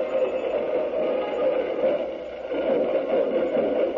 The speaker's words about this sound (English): Now we're going to let you listen to the band for a moment.